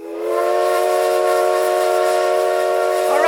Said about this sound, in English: How about you giving a toot on the whistle?